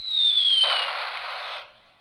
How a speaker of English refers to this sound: Now, I have many such noisemakers. For example, there is the sound of a chicken clucking. And we have the sound of a bomb dropping.